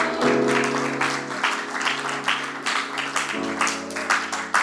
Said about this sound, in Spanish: ¿Le podemos dar un aplauso al Señor?